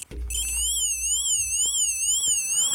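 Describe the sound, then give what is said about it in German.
A Lego toy police car siren wails in a rapid, warbling high-pitched electronic tone, steady and fairly loud for nearly three seconds with a faint low rumble underneath. “Ein unscheinbarer Polizeiwagen von Lego entert die Bildfläche und macht folgendes Geräusch.”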